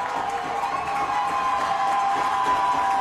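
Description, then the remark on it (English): The Case crowd at a football playoff game roars and cheers loudly on a third down, a dense, steady wall of voices holding at full volume for the whole stretch with no pauses or clear individual words. “This is the loudest I've heard this Case crowd all year, Dick.”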